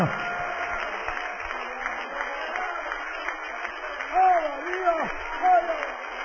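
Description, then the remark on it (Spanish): An audience applauds the Father, the Son and the Holy Spirit in a steady, dense wash of clapping that fills the whole clip, with a man's voice rising and falling in excited calls over it near the end. “Dale un aplauso al Padre, al Hijo y al Espíritu Santo.”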